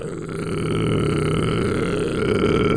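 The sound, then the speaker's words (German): A single voice sings the lowest note it can, holding one very low, gravelly note steadily for about three seconds, fairly loud, with a rough, growling edge and no words. “Sing mal den tiefsten Ton, den du singen kannst.”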